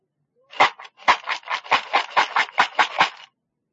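A homemade shaker, a paper circle tied with string over a paper cup, rattles in about a dozen quick, even bursts over roughly three seconds, a bright, fairly loud scratchy shaking with no voices.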